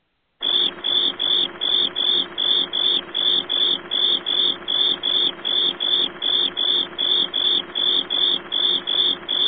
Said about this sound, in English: I hear crickets. Oh, wait, I got to hit the button for that. How can you hear me before I actually hit the button that will play the cricket sound?